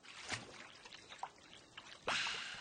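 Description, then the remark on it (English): Water drips from a leaky pipe in a few scattered plinks, then a louder, sustained splash near the end, all fairly quiet with no voices. “drinks from a leaky pipe.”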